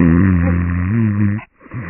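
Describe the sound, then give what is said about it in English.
A man's loud, drawn-out snore rumbles with a deep, buzzing tone for over a second, breaks off briefly, then a second snore begins to rise. “I could put maybe some ballast in him and send him out to sea, and he could probably act as like one of them foghorns on a big old ship.”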